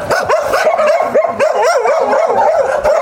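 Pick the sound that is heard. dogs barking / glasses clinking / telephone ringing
dogs barking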